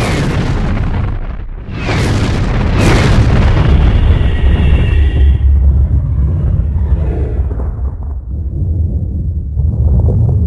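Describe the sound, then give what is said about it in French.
A massive cinematic explosion depicting the Big Bang erupts after a brief dip, swelling into a loud, sustained low rumble with crackling bursts and a whooshing shimmer, slowly settling while the deep roar continues. “Dans ce que vous avez appelé le Big Bang.”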